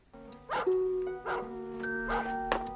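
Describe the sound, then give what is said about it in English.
A collie dog barks four times in a loose, uneven rhythm, the barks moderately loud over a faint sustained tonal background. “That dog, that collie dog, he doesn't like me. He's a bad dog.”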